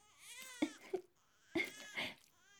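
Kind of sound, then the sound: human body sound, baby crying from hunger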